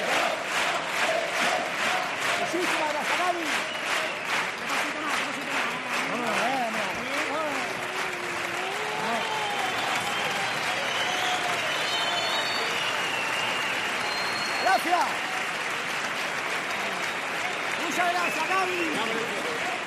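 A sustained ovation of dense, steady applause fills the whole stretch, with a crowd cheering and shouting over the clapping at a constant loud level.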